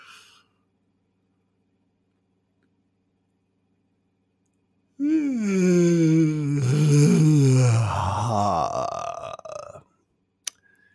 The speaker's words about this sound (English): Wow. I induced that yawn. You are probably yawning right now from having heard me do it.